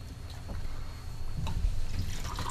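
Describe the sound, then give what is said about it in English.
Spanish cider made from organic Gravenstein apples of the 2015 harvest, fermented with natural yeast and aged in neutral French oak, is poured into a glass in a traditional long pour: a continuous low splashing trickle with faint bubbly clinks, moderately quiet, with no one speaking. “Okay, I'm pouring, everybody.”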